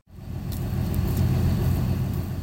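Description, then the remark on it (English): A low, steady rumble of over 100 cars, trucks and trailers idling together before sunrise in a county fairgrounds parking lot and down the neighboring street near Jackson Hole, as hunters gather; a dense continuous drone with no talking. “The sun has yet to rise, and over 100 cars, trucks, and trailers sit idling in the county fairgrounds parking lot and down the neighboring street.”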